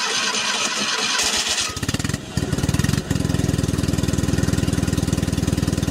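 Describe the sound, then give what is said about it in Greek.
A rear-wheel-drive Fiat 500's air-cooled engine cranks for a second or two, catches with an uneven stutter, then settles into a loud, steady, rapid putter of firing pulses at a low pitch. “Ένα αυτοκίνητο εξαιρετικό, ένα αυτοκίνητο αέροψυχτο με την κίνηση πίσω.”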